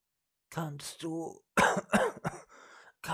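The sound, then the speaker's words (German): A voice imitates weak, strained coughing: a few raspy, breathy bursts mixed with groaning voiced sounds, moderately loud and uneven, spread over about three seconds. “»Kannst du mir helfen?« Jedes schwach hervorgestoßene Wort brachte mehr Husten und mehr Blut und den Engel näher an die Schwelle des Todes.”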